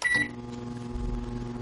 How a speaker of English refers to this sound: Water absorbs the electromagnetic waves also so that you're not at maximum power. But it could blow up if you leave it long enough in the microwave.